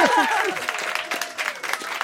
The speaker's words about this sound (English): More clapping. It's my wife. More clapping for my... Yeah, yeah.